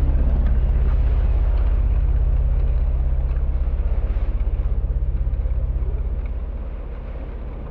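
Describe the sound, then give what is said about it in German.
The heavy wheels of a wagon rumble steadily as it rolls out of a courtyard, a deep continuous rolling drone that slowly fades as it moves away. No voices are heard. “Ich höre, wie die schweren Räder des Wagens aus dem Innenhof rollen.”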